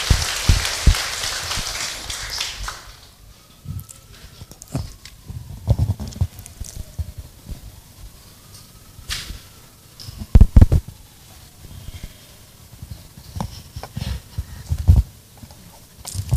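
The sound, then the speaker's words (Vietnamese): At a Buddhist short-term ordination gathering, a burst of dense clapping welcomes a woman coming up to share, filling the first few seconds, then thins into scattered, irregular claps and taps that keep going sporadically to the end, with no one speaking. “Thì cho một tràng vỗ tay thật là lớn để lắng nghe chia sẻ của cô.”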